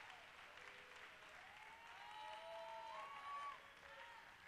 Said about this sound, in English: Oh, clap your hands to the Lord and give God praise.